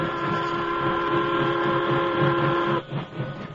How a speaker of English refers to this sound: Because of his officer's disguise, the engineer and fireman listened as the Lone Ranger explained the situation, and the train started.